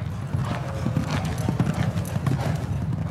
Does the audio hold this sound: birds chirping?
no